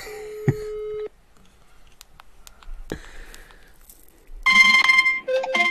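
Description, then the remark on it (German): An outgoing phone call rings: a steady electronic ringback tone lasts about a second, then near-silence with scattered clicks, followed by a louder, busy burst of warbling electronic tones. “Aber er sieht doch, dass du ihn anrufst.”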